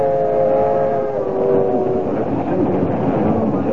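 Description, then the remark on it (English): A passenger train with a dining car rolls steadily along the rails with a loud, continuous rumble, with faint tonal squeals or a horn note drifting over the noise in the first half. “You know, I haven't been in a dining car in years. I didn't know they still have them. Heck, some people don't know there are still trains running.”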